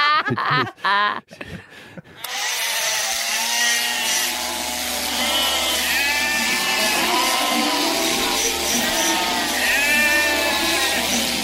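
A dense chorus of sheep bleating, many overlapping wavering cries filling the scene loudly and continuously, after a brief opening of voices and sharp clattering sounds.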